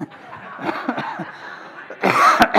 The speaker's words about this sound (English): I'm going to cough here for a second. Oh, that was good.